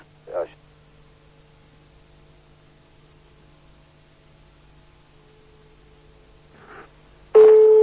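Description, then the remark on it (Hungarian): A telephone ringing tone sounds faintly and steadily on a phone line, with a couple of brief noises along the way, before a loud rush of hissing static cuts in at the end. “Csörög is.”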